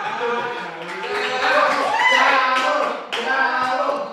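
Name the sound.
audience clapping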